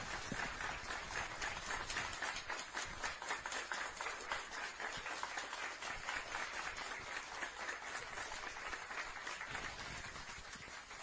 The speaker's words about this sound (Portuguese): Em nome de toda essa confusão cheia e repletíssima de amor, o meu agradecimento, que eu tenho certeza que é o agradecimento de cada pessoa, a primorosa equipe da AFAC. Uma salva de palmas imensa para ele.